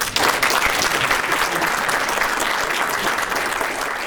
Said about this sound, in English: A round of applause again for our presenters.